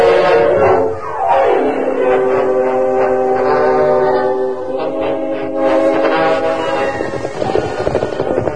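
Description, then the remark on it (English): The whistle of eastbound steam train number 10 sounds in long, sustained wails that bend in pitch, carried over a steady, heavy rumble of a moving train throughout, with no talking. “As they approached a bend, they heard the whistle of number 10 eastbound.”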